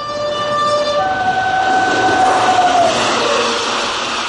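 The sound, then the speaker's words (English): A train thunders past over a bridge, a loud continuous rumble and clatter with its horn blaring a sustained two-tone blast through most of the passage. No voices are heard. “Well, this bridge we're on, I'll... I think you'd better haul your line in. Why? You mean I've caught something? No. Well, there's a train coming.”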